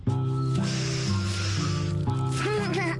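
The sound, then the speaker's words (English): A long, breathy inhale through the nose as someone smells something, drawn steadily, heard over sustained background music tones with no talking. “Oh, try breathing this.”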